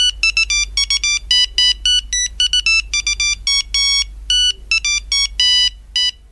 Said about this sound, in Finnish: Tetris, yhtä suuri kuin Säkkijärven polkka PC-piipperillä. Lähtemätön assosiaatio. Säkkijärven polkan kuuleminen herättää aina hingun pelata Tetristä, ja Tetriksen taustalla kuulen aina tuon piipperin.